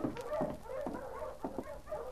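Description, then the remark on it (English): An approaching sled dog team pulling a sled with two men barks and yelps in repeated overlapping bursts while it is snowing, fairly faint, with no voices over them. “There's a dog team coming in.”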